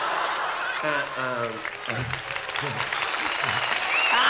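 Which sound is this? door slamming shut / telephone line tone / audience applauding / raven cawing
audience applauding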